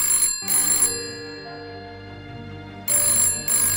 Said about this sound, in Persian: صدای زنگ تلفن به گوش رسید. صدا خیلی ضعیف بود.